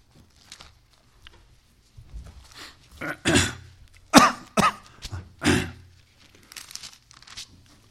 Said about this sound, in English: So I'm going to try to control my cough as best I can.